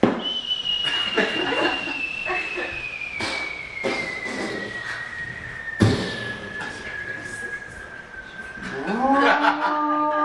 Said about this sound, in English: That was a cow. There was cows in Alberta.